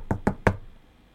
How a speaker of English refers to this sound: So there's a knock on your door.